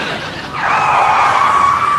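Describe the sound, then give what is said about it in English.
A loud, high-pitched tire screech starts abruptly after a moment of faint background noise and holds steady as a sustained squeal to the end, with no talking. “What I wouldn't give to hear a screech and a thump right about now.”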